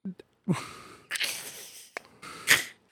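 Heavy, loud breathing: a few forceful, raspy huffs and gasps in an uneven rhythm, with short pauses between them and no talking.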